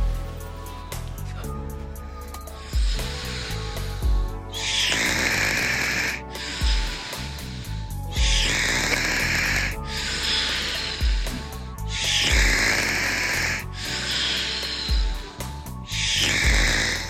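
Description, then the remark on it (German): A person snores loudly, about eight rhythmic snores at steady two-second intervals, each a rattling low rumble followed by a breathy, whistling exhale, with no talking. “So, und jetzt gibt's noch mit, jetzt machen wir anstatt die Musik zum Ende, machen wir ein bisschen Schnarchen”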